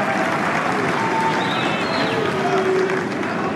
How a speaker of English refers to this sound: Here we go. Nice round of applause for the magician.